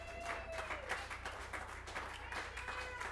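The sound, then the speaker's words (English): An audience at a live music gig applauds itself with steady, dense clapping that holds throughout, fairly loud, with a few voices calling out over it. “Round of applause for all y'all.”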